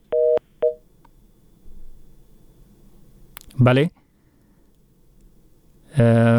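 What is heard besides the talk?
phone call cutting off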